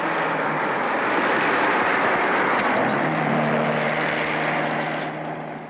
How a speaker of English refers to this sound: Here comes a car. Okay, now watch me. I'm going to use number one. Keep your eye on that thumb, baby, and see what happens.